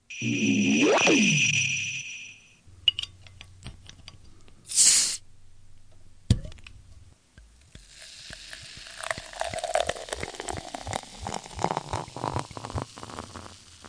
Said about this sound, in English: Okay, the sound you're going to hear is me transitioning to the beer mic so you can hear me open this bottle.